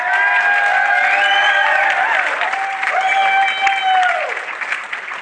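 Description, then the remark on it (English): A large crowd claps loudly and steadily for several seconds, applauding the makers of a film, with scattered cheers and whoops rising over the dense wash of applause before it begins to thin near the end. “Stand up and take a round of applause.”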